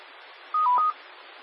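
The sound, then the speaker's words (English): A short burst of electronic tones from the speaker's cell phone, a quick cluster of beeps lasting under half a second, heard over a steady band of radio static with no one talking. “Yep, there's my cell phone.”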